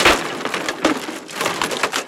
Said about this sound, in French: Un bruit de chaise cassée.